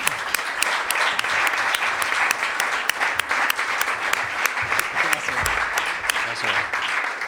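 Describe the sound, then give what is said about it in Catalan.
Steady applause from an audience at an award ceremony, welcoming the local artist who designed the awards; dense overlapping claps fill the whole stretch at a fairly loud, even level with sharper individual claps popping out. “Un aplaudiment.”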